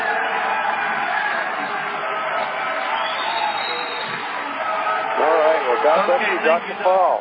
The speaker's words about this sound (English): You know, a little bit of booing there at the end. You know what? Good. Stir them up.